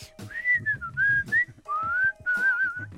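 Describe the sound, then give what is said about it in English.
Someone whistles a wandering, sliding melody from a guitar album, a few sustained phrases with brief breaths between them, over faint low background noise. “I said to the kids, you know, I can whistle this whole album.”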